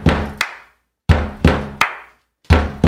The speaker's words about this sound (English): This is a drummer knocking on a door. What song is he drumming?